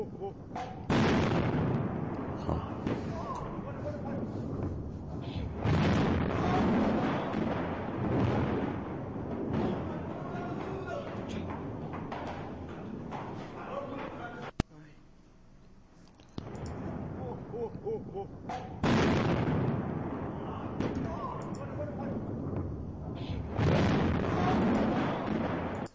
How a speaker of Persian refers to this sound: در شمال شهر تهران یک انفجار وحشتناک، حالا من صدا با صدا گذاشتم.